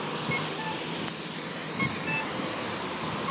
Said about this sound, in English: I know in some countries they only have one signal for either direction, and I think that's because in some countries all the cars stop, whereas here there's north and south. They want to keep the traffic moving.